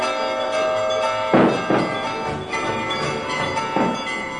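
The bells of all the churches ring out with a dense, sustained metallic hum, punctuated by several heavy clanging strikes at uneven intervals, marking the 1868 christening of the infant future Tsar Nicholas II near Saint Petersburg; no voices can be heard.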